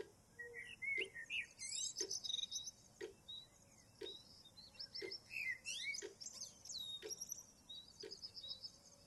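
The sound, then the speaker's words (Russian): A lively chorus of many birds chirping and trilling at once in the morning, overlapping high tweets with regular sharp clicks, heard outdoors with no voices. “Александра проснулась от многоголосого щебетания птиц.”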